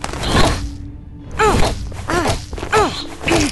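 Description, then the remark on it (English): A small bird, a cuckoo, is swung upwards over someone's head and slammed into a wall, giving five dull, heavy thuds in an uneven rhythm, each with a brief squeaky, fleshy crunch. No voices are heard. “Then she swings it upwards, over her head, slamming it into the wall.”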